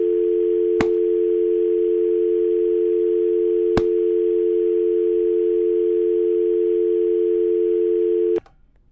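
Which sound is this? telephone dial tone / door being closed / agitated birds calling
telephone dial tone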